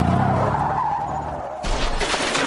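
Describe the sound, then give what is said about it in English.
A car's tires screech in a long, steady squeal for over a second as the car skids, then a sudden heavy thump as it hits a deer, followed by rumbling noise. No one speaks. “Congratulations, you just met a deer with your bumper.”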